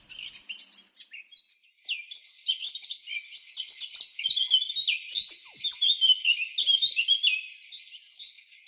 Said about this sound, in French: Et la grive draine, Turdus viscivorus. La grive draine est connue depuis longtemps comme agent de transport du gui,